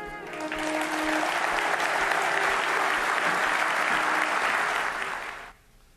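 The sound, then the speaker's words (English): An audience bursts into sustained, steady applause for a testimony, holding loud and even for about five seconds before cutting off abruptly, with a faint murmur of voices beneath the clapping at the start. “I think we probably want to applaud that testimony.”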